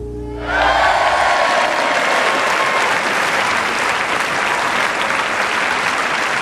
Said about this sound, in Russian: Зал поднялся, стал неистово хлопать. Отовсюду неслись крики «Браво! Бис!».